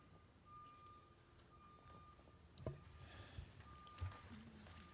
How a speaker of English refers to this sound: Well, I think that backup alarm signals it's time for lunch.